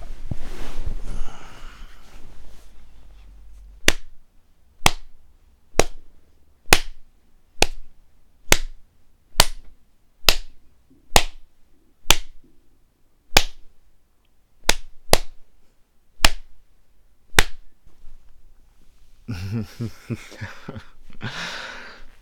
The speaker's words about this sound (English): I'm actually going to be spanking, or rather slapping, your right tit.